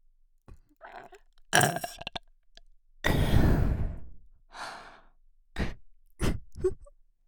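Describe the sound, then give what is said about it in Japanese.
One loud, drawn-out burp from a woman rumbles for about a second, surrounded by short breaths and sharp mouth noises, with no talking. “ドスケベゲップ、エロゲップ、えぐいやつ破裂させちゃう。君の人生をおかしくしちゃうゲップ女です。”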